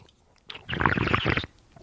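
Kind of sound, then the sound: food or drink, sipping wine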